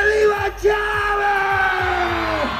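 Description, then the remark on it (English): Thousands of people at a campaign rally for government candidate Rafael Lacava in Venezuela's industrial heartland yell and cheer loudly and continuously, celebrating the end of his campaign, many voices blending into a dense roar with a few sustained shouts rising above the din. “Thousands squeezed in to celebrate the end of his energetic campaign.”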